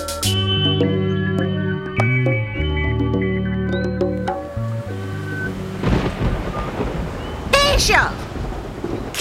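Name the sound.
thunder rumbling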